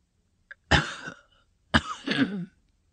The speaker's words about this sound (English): It slipped down on your shoulders, she observed, panting from coughing.